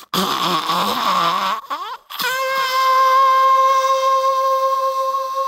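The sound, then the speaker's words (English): A voice imitates someone blowing a gooch horn, a buzzy, kazoo-like horn: a wavering, nasal drone for about two seconds, a short break, then a steadier, higher sustained buzzing tone that holds to the end. “It just sounds like a kazoo.”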